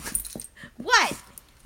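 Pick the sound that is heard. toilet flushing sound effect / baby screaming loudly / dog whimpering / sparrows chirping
dog whimpering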